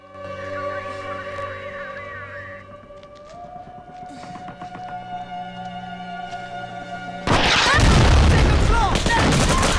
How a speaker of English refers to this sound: A volley of gunfire at the flats heralds the end of the ceasefire.